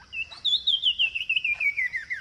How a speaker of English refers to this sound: Now, here again is the sumacrest wren.